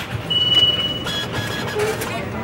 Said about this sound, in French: Si on est dans le bus, là, oui, avec les enfants qui pleurent, et c'est la vie du bus, quoi. La vraie vie, comme on dit parfois.